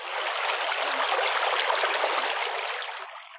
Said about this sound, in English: Not far from the beach, they heard the sound of rushing water.